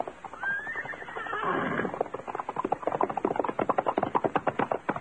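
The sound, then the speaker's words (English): A horse, called by its rider, gives a loud, shaky whinny, followed by a quick run of hoofbeats clattering rhythmically as it approaches. “Do you mind if I call my horse?”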